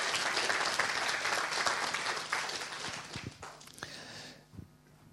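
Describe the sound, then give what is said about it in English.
A group applauds with dense, steady clapping that holds strong for about four seconds, then thins to a few scattered claps and fades out. “You can give him a little clap.”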